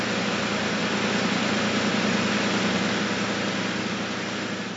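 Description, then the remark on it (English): A dense, steady roar of a field of 27 race car engines starting together on the command to start engines at a Grand Prix, a loud continuous rumbling drone with layered low throbbing tones and no voices, holding level throughout. “That's the field of 27 roaring to life”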